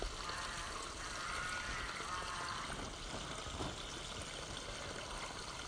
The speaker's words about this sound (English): It's since the flood, it's become quite a leap here because the creek base has widened by a couple of meters, so there are parts of it that are almost like a river, really.